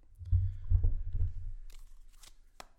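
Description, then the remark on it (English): A deck of cards being shuffled during a card reading: soft, muffled thumps of handling give way to a crisp, papery flutter and a couple of sharp snaps at the end, with no one speaking. “I'm going to put the microphone down and do a little shuffle.”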